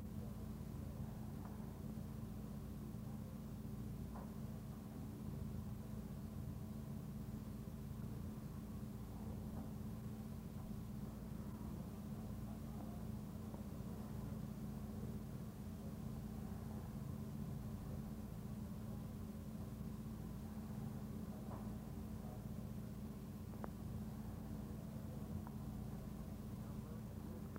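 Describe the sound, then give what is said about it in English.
A motor that has been running continuously for two days drones on without a break, a loud, steady low hum with a constant pitch and faint mechanical rattling on top, never rising or fading. “The motor has been running continuously for 2 days.”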